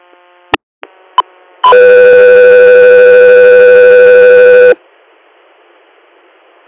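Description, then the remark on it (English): A radio dispatch alert tone for Echo 3: a few short clicks and a brief tone, then a loud, steady harmonic tone held for about three seconds before cutting off into faint static. “Echo 3, you're standby for tone.”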